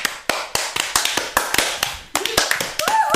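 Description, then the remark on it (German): A person claps for themselves in a quick, fairly steady rhythm, about a dozen sharp claps, with a brief high whistle-like tone rising near the end. “Bro, klatsch für mich selber. Ich kann nicht richtig klatschen, warte so.”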